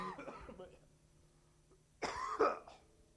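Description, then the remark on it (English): A person with a scratchy throat clears their throat and then coughs a couple of times, fairly loud, after a moment of quiet; the bursts are harsh and abrupt, with a faint voice trailing off at the start. “Somebody have a cough drop.”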